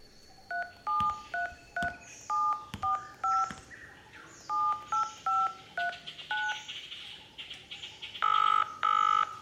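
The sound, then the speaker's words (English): A rapid series of short electronic keypad beeps from a cell phone, dual-tone dialing presses in quick irregular bursts, followed by two longer steady tones at the end, clear with no talking. “Bingo! Cell phone.”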